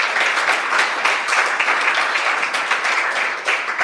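Steady audience applause, a dense wash of many hands clapping at an even, fairly loud level throughout, with no voices standing out.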